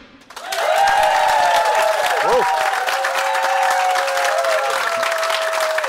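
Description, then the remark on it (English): A large live crowd at a special Monday Night Rugby show at Vodafone erupts into loud, sustained cheering and applause that swells in quickly and holds steady, with whistles and shouts rising over the clapping. “That is a big cheer.”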